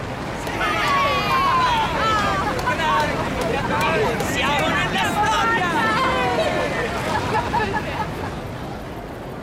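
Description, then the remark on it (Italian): A large crowd in the stands cheers and shouts excitedly as a Titan 3 rocket carrying a Voyager spacecraft lifts off, many voices overlapping in a loud, continuous hubbub over a deep, steady rocket engine roar, with one voice calling out above the rest. “Quando il razzo vettore Titan 3 si staccò da terra, i festeggiamenti sugli spalti arrivarono quasi a coprire il boato dei motori.”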